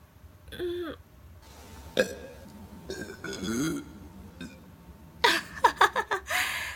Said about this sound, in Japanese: ゲップ出ちゃったし、やっぱ恥ずかしいよ。